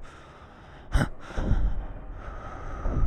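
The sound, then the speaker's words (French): Uneven, frightened breathing of a person standing on guard in a kitchen with a knife, with a sharp gasping intake near the start, followed by shakier breaths at irregular intervals, no talking, over a faint steady background hiss. “Le seul son que j'entendais était celui de ma respiration apeurée, irrégulière.”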